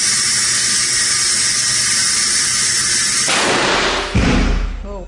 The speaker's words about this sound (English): Boston University lab, Dr. Goldstein built this 27-foot blast tube where a mouse, and in this demonstration, a model, is exposed to an explosion equivalent to the IEDs used in Iraq and Afghanistan. When it reaches about 25, this thing is going to go.